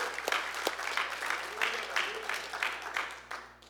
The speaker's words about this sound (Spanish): Denle un aplauso a la palabra de Dios. Porque Dios habla.